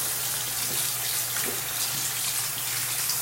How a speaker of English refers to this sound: Okay, I'm just setting my phone down so I can just rinse it off quickly and put some lube on it, and then I'll insert it.